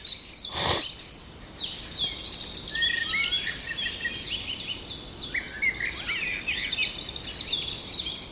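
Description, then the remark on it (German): Outdoor birdsong from a common blackbird, one of a breeding pair, with a steady stream of bright, high chirping and warbled phrases over faint background hiss, plus a brief sharp burst near the start; no voices. “Die Amsel, aber ich glaube, er kommt gleich in Fahrt.”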